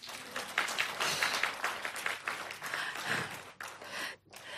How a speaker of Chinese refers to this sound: 我哋再一次为我哋所有嘅母亲鼓掌。